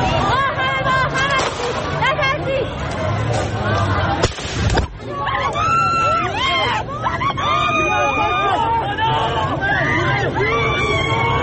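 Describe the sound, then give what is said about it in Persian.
A large protest crowd in front of the governorate building in Amol, northern Iran, shouts and screams continuously, many raised voices overlapping in a loud, chaotic roar, with a brief sharp burst of noise partway through before the yelling surges again; a man urges people not to be afraid and people cry that someone was killed. Recorded on a mobile phone. “صدای فریاد او که مردم را دعوت به نترسیدن می‌کرد و لحظه جان باختنش و فریاد مردم را که یکی را کشتند موبایلش ضبط کرده است.”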